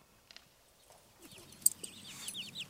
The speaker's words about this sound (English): You see, there's the hen with the little chicks, and in a moment, the danger appears.